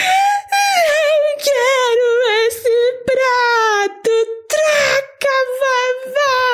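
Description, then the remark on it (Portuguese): A voice imitates a little girl crying and wailing while she speaks, with loud, high-pitched sustained wails that waver and break into several bursts between short breaths. “Só fala assim, desse jeito, gritando, sabe? Chorando.”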